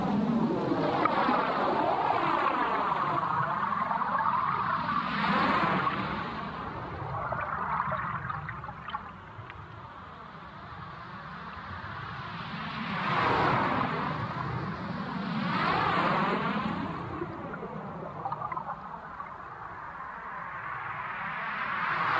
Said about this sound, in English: And it was brought to my attention when I started using hydrophones and recording underwater, in seawater in particular, because it has that rich, harmonic, but relatively muted quality. You know, how you may imagine it sounds.